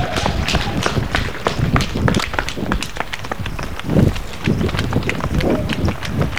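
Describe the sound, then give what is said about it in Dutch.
Quick running footsteps pound in a steady rapid rhythm over hard ground in a new-build area of Amsterdam-Zuid, each stride a sharp thud, with a little breathing and background noise mixed in. “En ik geloof dat ik moet rennen.”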